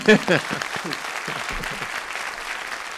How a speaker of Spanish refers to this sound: Ahora ¿no? Sí que te voy a aplaudir.